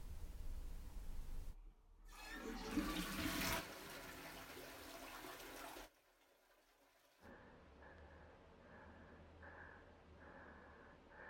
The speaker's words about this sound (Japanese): 今からトイレを流します。